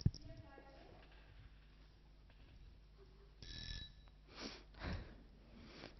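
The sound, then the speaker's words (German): A house telephone rings in a short, bright burst as a call is made on it, followed by a couple of softer clunks like a handset being handled, in an otherwise quiet room. “Schneider telefoniert mit dem Haustelefon.”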